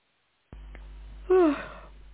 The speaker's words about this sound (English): Oh, me too. I keep hearing somebody yawning, and it's so catching.